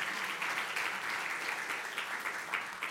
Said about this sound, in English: And yeah, go ahead. You can applaud.